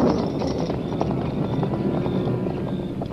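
horse hooves clip-clopping

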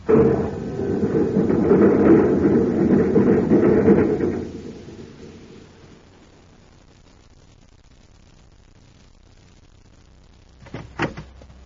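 door shutting

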